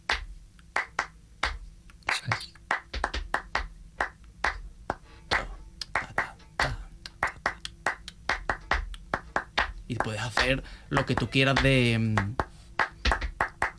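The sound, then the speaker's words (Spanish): Sharp flamenco palmas hand-claps keep a brisk, syncopated rhythm in the mirabrás compás throughout, with accented beats, while a man speaks briefly over them near the end. “Como yo digo, de virguerías, ¿no? Con las palmas.”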